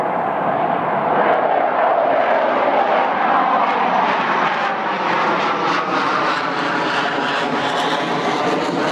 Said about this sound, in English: The EA-18 Growler. Earlier in the month, we did a story about resident complaints about this noise. Well, several listeners wrote in to complain about our story. They said the sound of growlers flying overhead wasn't a problem at all.